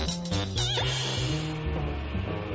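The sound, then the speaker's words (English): A goat bleats loudly, a drawn-out, quavering cry with a wavering pitch that carries for a couple of seconds, with no voices around it. “Looks like there's a goat in the machine.”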